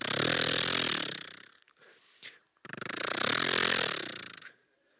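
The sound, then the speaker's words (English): A voice imitates an old Toyota Camry engine trying to start: two long, raspy, pulsing cranking groans separated by a brief sputtering pause, loud and alone with no other talk. “This was like a 1901 Toyota Camry. Had wagon wheels for the tires. Had hamsters in the engine.”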